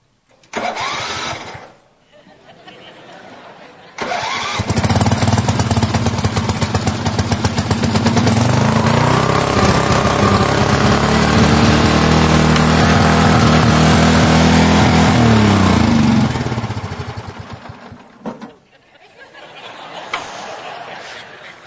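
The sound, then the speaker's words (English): A small gas lawn mower engine, started indoors, sputters briefly, then roars to life and runs loud for about thirteen seconds, its steady rattling drone dying away near the end. “You know, if you can start a lawnmower inside, you just have to do it.”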